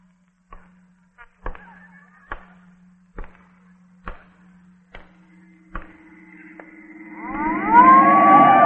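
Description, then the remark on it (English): A police car siren swells up in the last seconds, a loud rising wail, after a run of sharp, evenly spaced taps over a low steady hum. “The squad car.”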